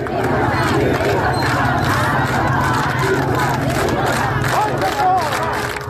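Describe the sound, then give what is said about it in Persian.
A large crowd at the burial ceremony of a young girl in Iran shouts and chants together in a dense, continuous roar of many voices, loud and unbroken throughout, with occasional higher cries rising above the mass. “صدای دیگر اما فریادهای مردم شرکت کننده در مراسم تدفین این دختر جوان بود.”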